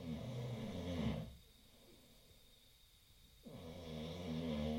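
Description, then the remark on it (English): A man snores in his sleep on sleeping bags on an old wooden floor in a 16 by 16 foot room, two long, rumbling, buzzy breaths separated by a quiet pause of about two seconds, with no other sounds around. “has learned to sleep through the night, comfortably, snoring.”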